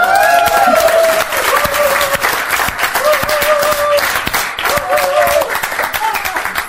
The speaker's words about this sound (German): Es geht einzig und allein um eine Person und die Person heißt Jesus Christus. Ja, gib ihm einen Applaus.